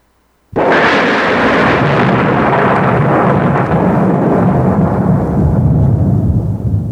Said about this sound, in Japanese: 突然大きな雷の音が小屋中を震わせる。